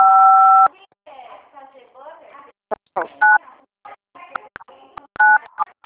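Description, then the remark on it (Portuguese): Phone keypad dialing tones from keys pressed on a mobile phone during a call: a long steady two-pitch beep, then two shorter beeps a couple of seconds apart, with a person talking between them. “Eu não tô conseguindo te ouvir porque você tá acho que digitando.”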